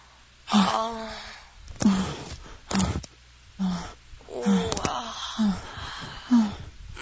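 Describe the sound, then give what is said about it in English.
Heavy, breathy exhalations mixed with low, rasping growls made by a human voice breathing into the listener's ear, repeating in uneven bursts about once a second with quiet gaps between. “Feel me breathing in your ear, growling.”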